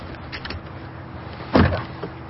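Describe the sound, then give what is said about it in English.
A car's standard power door locks engage with a single quick, solid mechanical clunk, clear over a low, steady hum. “Power door locks, standard, of course.”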